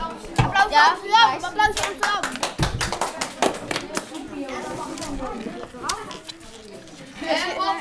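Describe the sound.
A group claps in applause for the winning team Amsterdam, quick uneven hand claps, while excited children's voices shout and talk over the clapping throughout.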